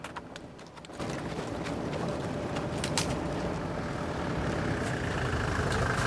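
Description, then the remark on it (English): A speeding car's engine roars in suddenly after a quieter second, then holds a loud, rough, steady rumble with occasional clattering knocks, as if the car has just pulled up. “He roughly covers the lid with a rug and rushes over to confront the speeding car.”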